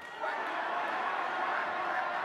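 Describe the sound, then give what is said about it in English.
A large crowd quacks like ducks in place of applause, a dense, continuous wash of voices imitating duck quacks, loud and sustained throughout with no pauses. “and everyone has to quack instead of applaud.”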